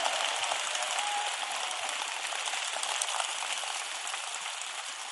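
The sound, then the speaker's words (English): A crowd claps steadily for several seconds for the biblical figure Benaiah, a dense, even wash of many hands with no distinct individual claps standing out and no voices over it. “Benaiah, clap for Benaiah.”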